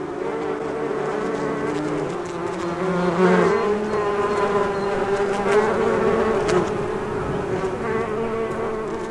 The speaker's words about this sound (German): Hört ihr die Bienchen summen?